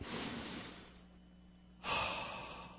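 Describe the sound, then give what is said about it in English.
Slow, deep relaxation breathing: a long airy exhale fades away, a brief quiet pause follows, then another full breath rushes in, loud and breathy, with no talking. “Breathing.”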